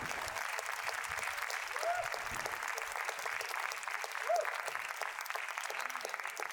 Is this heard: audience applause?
yes